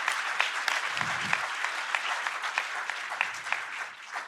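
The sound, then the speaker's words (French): A church audience bursts into sustained applause for what Jesus does in their lives. Dense overlapping claps fill the whole stretch at a steady loud level, with a few brief low murmurs underneath. “Est-ce qu'on peut applaudir ce que Jésus fait dans nos vies?”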